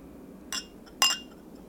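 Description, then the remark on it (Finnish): Two bright clinks of drinking glasses touching in a toast, about half a second apart, the second a little louder and ringing briefly. “Proosit. Maistoimme laseistamme.”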